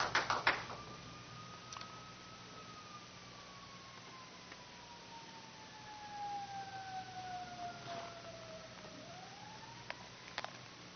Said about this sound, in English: Let the sirens go by.